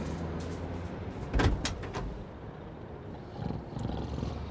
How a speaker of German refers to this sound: schaute sich nervös um und öffnete dann die Tür seines Lieferwagens.